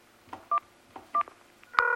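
Two short, evenly spaced keypad beeps from a phone being dialed to call a bus driver, followed by a louder, steady tone that holds to the end, with faint clicks of button presses between them.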